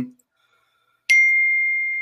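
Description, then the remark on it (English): A single bright phone notification ding strikes after a moment of silence, its clear tone ringing out steadily and fading only slightly, fairly loud. “Your phone is buzzing off the hook.”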